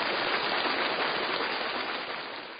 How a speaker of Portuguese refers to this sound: eu gostaria de pedir, por favor, palmas para eles. Palmas! Muito bem.